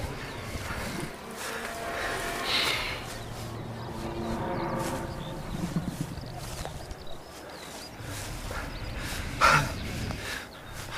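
A large glistening beast crouched in a doorway breathes heavily and laboriously, with rasping, rhythmic heaves and occasional snorting bursts, steady throughout, with no voices.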